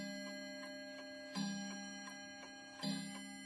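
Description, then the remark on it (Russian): A clock strikes twice with two heavier accented hits, a sustained ringing tone humming throughout while quick, steady ticks continue underneath at a moderate level. “Когда бьют часы, Андрей Ефимович откидывается на спинку кресла и закрывает глаза”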